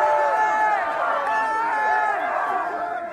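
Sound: crowd roaring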